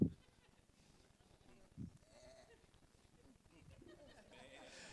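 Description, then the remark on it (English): A church audience imitates sheep, with a loud burst of bleating right at the start and another shorter bleat about two seconds later, over a murmuring crowd. “Only at Discovery Church will people go, bah, back at you.”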